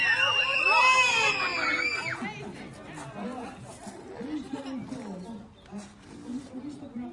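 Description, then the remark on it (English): A loud burst of high-pitched crowd screaming and cheering fills the first couple of seconds, then fades into excited chatter and overlapping voices from a lively group. “Let me scream!”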